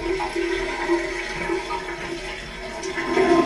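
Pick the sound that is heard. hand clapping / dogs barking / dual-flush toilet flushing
dual-flush toilet flushing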